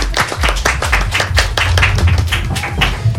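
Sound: audience applause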